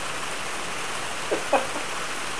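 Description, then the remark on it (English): Heavy rain pours steadily, heard over a phone call, a dense, even hiss with no pauses, broken only by two brief, faint sounds partway through. “Yeah, when you talk, it overpowers the rain. But when you go silent, it just gets very loud.”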